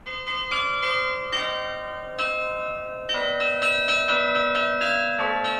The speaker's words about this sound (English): Mixing church bells and hip-hop might sound crazy or gimmicky, but it's kind of a throwback to the old days of bells and bell ringers